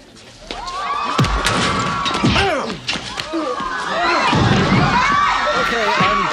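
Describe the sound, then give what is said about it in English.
A live studio audience reacts loudly to a fight scene between Zach and Slater on Saved by the Bell, shot in front of a live audience, many voices shouting, oohing and cheering over each other throughout, with a few sharp thuds and slams cutting through the din. “It was actually shot in front of a live audience.”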